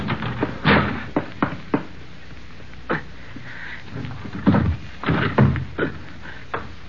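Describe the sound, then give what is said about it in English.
A phone booth door being pushed open and shut, with a string of sharp thumps and rattling clatter at irregular intervals and a few brief scraping creaks in between, no talking. “Well, I'll hold the door.”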